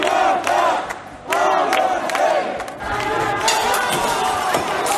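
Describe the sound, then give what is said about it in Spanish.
A loud, chaotic crowd of protesters at the police headquarters on Vía Layetana shouts and yells continuously while stones, glass and drink cans are thrown at the station and police vans; voices overlap in a dense roar with sharp cries rising above it and a brief dip before the noise surges back. “Los radicales han lanzado piedras, cristales y latas de bebida contra la comisaría y contra las furgonetas policiales que la custodiaban.”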